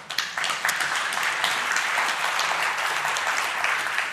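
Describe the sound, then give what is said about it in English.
An audience at a Wednesday night church service applauds God in a steady, dense wash of clapping that stays at an even, fairly loud level for the whole four seconds, with no voices standing out. “Father, we do just applaud you tonight.”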